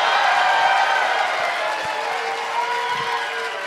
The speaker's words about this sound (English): Don't clap too hard.